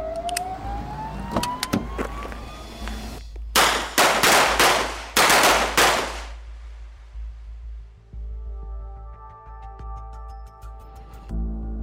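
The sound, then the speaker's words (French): A police siren wails upward over the low rumble of car engines as police pursue Bonnie and Clyde, interrupted midway by several loud, harsh bursts of noise, then a steadier droning tone as traffic continues. No one speaks. “Les sirènes stridentes l'emportent sur le bruit des moteurs.”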